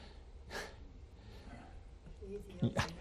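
A person coughs: one short, breathy cough early on, then a pair of louder, harsher coughs close together near the end.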